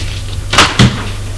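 household object, door closing

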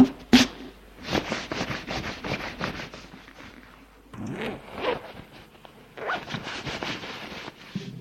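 household object, clothes being taken off

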